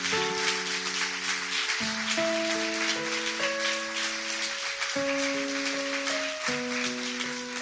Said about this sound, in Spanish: ¿Cuántos pueden darle un fuerte aplauso a esa declaración?